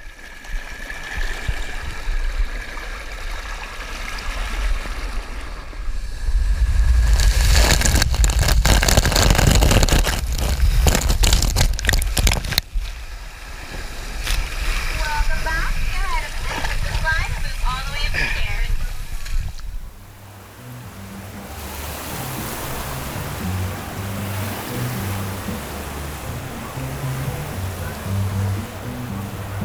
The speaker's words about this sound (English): But the sound from the video is very representative of the experience of going down Summit Plummet, which is basically being smacked in the face with water.